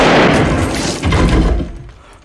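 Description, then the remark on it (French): A loud, sharp gunshot as a teacher shoots himself, followed by a rumbling, echoing decay and a second swell of noise before it fades; no one speaks. “Il s'est foutu en l'air! Il s'est shooté, le prof!”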